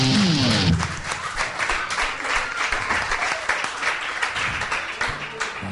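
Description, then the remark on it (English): An audience breaks into steady, dense applause that fills the whole clip, with a brief vocal cheer at the start before the clapping carries on at an even, loud level. “Lord, a cheer.”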